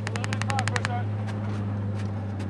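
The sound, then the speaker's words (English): Automatic weapons fire from soldiers crouched in a drainage ditch, shooting toward a tree line about 300 yards away: a rapid, evenly spaced burst of about ten sharp cracks, followed by a few scattered single shots, all over a steady low droning hum. “Other soldiers are crouched in a drainage ditch, firing their weapons toward a tree line about 300 yards away.”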